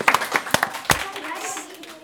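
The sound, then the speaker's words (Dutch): A short burst of scattered applause for the quizmasters, a handful of sharp, uneven claps, thinning out after the first second while voices murmur underneath. “Hey, applaus voor de quizmasters.”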